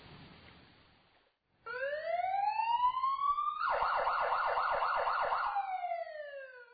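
A fire truck parked near a house sounds its siren after a brief hush, a loud rising wail that switches into a rapid warbling yelp before easing back to a steady tone, with no talking.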